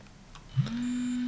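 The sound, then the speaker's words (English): A Braille display has its power unplugged while switched on: a short electronic chirp and faint high beeps, then a steady low buzzing vibration that starts abruptly and holds on to the end, with no talking. “You heard the beeps and the long vibration.”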